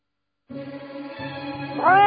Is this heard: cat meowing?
yes